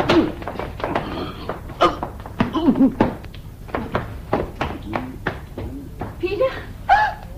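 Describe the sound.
A metal door bar clunks free and a heavy door is pulled open, with a run of thunks and knocks while a voice murmurs underneath.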